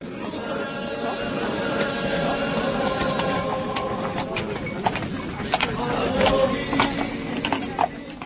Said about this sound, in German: Hoch zu Ross ist der heilige Martin gekommen, natürlich auf einem weißen Pferd.